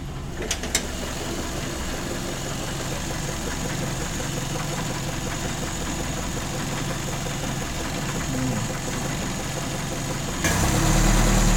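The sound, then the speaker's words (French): A vintage car engine idles steadily with the choke off and 44 litres in the fuel tank, a low, even rumble with faint knocking pulses, swelling slightly louder near the end. No one speaks. “J'ai enlevé le starter. Alors, ma charge est très bonne. Mon réservoir, je suis à 44 litres. Sans starter. Écoutez-moi ça.”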